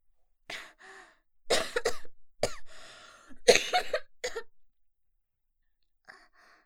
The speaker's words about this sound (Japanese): はい、比較的新しいお部屋で、ですね、結構病弱な女の子が便秘で苦しんでます。頑張ってうんちをしてるので見守っててあげてください。あ、なんでしたら咳をした時に背中をトントンしてあげるとか優しくしてくれると助かります。